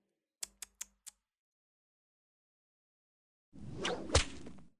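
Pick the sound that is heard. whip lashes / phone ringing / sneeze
whip lashes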